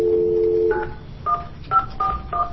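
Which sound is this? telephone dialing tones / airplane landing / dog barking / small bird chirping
telephone dialing tones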